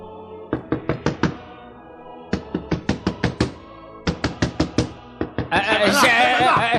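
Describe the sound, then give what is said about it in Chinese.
Shepherds knock on the wooden door of an inn: three quick bursts of firm knocks, about five or six raps each with short pauses between, followed by a brief loud voice or noisy outburst at the end. “那颗星星停在这个客店的上方、哎、我们敲敲门问问看吧。”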